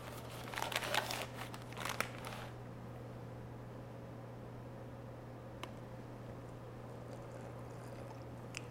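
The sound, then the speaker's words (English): A short burst of dry, rustling, crinkly pouring as cornstarch is poured into a beaker in the first couple of seconds, followed by near silence over a steady low electrical hum, with one or two faint ticks later. “So I'm going to pour in some cornstarch in the beaker, a lot of cornstarch. Then I'm going to add a little bit of water into the same beaker.”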